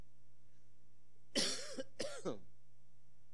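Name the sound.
coughing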